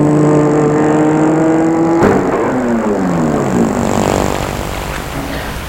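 A car engine hums steadily, then shifts with a clunk and winds down as the car slows and settles into a low idle while a woman parks it on an empty boulevard with little traffic.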